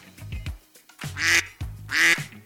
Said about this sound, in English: Friend of mine loves that. There are people, shut up. There are people that listen just to hear the duck.